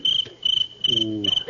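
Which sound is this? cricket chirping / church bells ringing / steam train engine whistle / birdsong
cricket chirping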